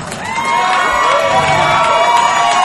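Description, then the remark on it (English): A comedy club audience cheers loudly as a comedian is introduced for a Saturday night set recorded for a CD, with scattered whoops and shouts rising over a dense, steady roar of applause and voices that fills the whole stretch without pause. “All right, this is the crowd. I can already tell.”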